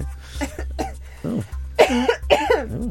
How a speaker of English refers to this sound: I mean, for someone who didn't want to cough on air, you've gone for it now.